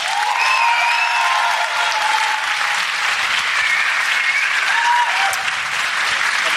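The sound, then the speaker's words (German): Steady audience applause as a vote for the entry 'the perfect start into the new year', a dense, even wash of clapping at constant loudness, with a few faint voices and whoops rising briefly within it. “Und jetzt euer Applaus für den perfekten Start ins neue Jahr.”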